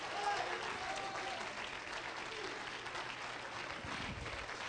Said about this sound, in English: If you're glad to know Him today in spirit and truth, I want you to clap your hands, lift your voice, and give God some praise.